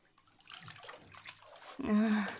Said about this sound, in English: Because the water's kind of all icky and brown, and I'm kind of sitting in a body of water with, like, my dirty, icky bath water. Okay, I'll get out.